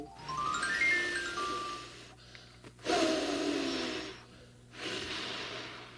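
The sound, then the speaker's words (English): A person blows air in three forceful, breathy bursts separated by short pauses, each a rushing puff that swells and fades, fairly loud, with no talking. “Wink a wink, whistle, and blow.”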